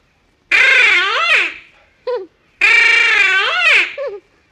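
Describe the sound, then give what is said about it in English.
A duck call blows a feeding call: two loud, nasal, wavering reedy blasts, each trailed by a short clipped note, alone with no talking. “And this one here, the feeding call.”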